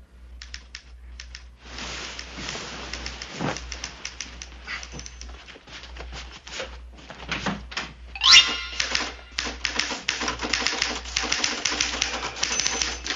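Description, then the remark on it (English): A manual typewriter clacks away late at night as someone types a screenplay, in rapid, uneven bursts of keystrokes, with a brief pause and a sharp carriage-return ding partway through, steady throughout. “That sounds like a typewriter.”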